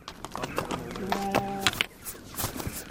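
Sheep and nomadic Kazakh herders scramble along a rocky mountain pass in the Altay mountains of Xinjiang, China, with sharp, irregular clattering of hooves on stone, broken by a brief bleating call midway, moderately loud.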